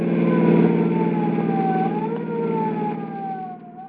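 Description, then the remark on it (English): A police car siren wails loudly and continuously, its pitch sliding up and down, over the steady roar of a heavy engine as the car races through city streets. No one speaks. “With a roar and siren screaming, they race through city streets to protect your lives and property.”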